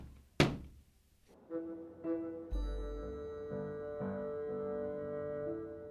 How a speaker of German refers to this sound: Auf einmal klopfte es an der Tür.